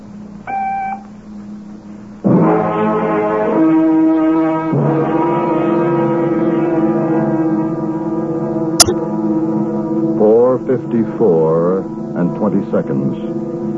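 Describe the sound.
A telephone time announcement: a short, clean electronic time-signal beep sounds once, marking exactly 4:54 and 20 seconds, followed by a loud, steady, low droning tone lasting several seconds, then some brief voice sounds at the end.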